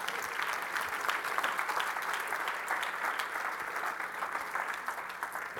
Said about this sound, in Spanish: ¿Le pueden dar un aplauso al Señor?